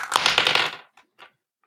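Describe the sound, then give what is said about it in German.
A quick clattering rattle of dice, rolled to pick a numbered topic, tumbling across a hard surface, followed by two or three small clicks as they settle, fairly loud with no talking. “Ich würfel mal.”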